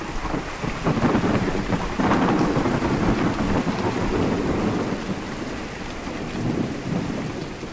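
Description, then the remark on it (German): A thunderstorm with steady, heavy rain hissing throughout and deep rumbles of thunder rolling underneath, loud, with no voices. “Es sind die Wege, die ein Gewitter an einem schwülen Julinachmittag nimmt.”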